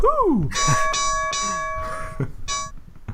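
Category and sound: sound effect, gong sound effect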